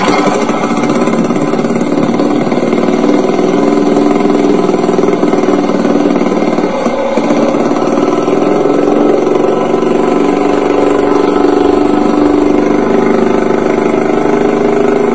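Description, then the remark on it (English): A car engine idles steadily and continuously, a loud, even mechanical hum with no breaks and no one talking. “Normally 1-3% more oxygen coming out of the tailpipe than there is in the air we're breathing.”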